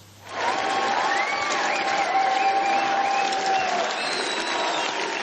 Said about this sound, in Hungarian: Sokáig nem tudta elkezdeni győzelmi beszédét Orbán Viktor, a tömeg percekig hangosan éjjenzett és tapsolt.